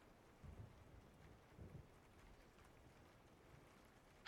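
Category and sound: nature, rain on a window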